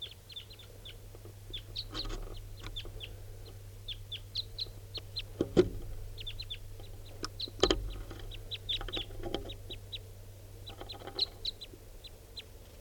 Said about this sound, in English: It's a red male. Recording at 6:43, more wild birds coming in, different birds.